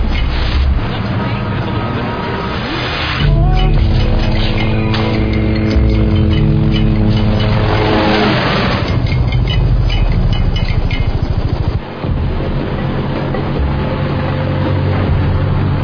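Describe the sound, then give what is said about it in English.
A guard's motorcycle following a truck revs loudly, its pitch climbing and falling in sweeping surges over the steady, heavy rumble of the truck rolling along. “It's a motorcycle guard following the truck.”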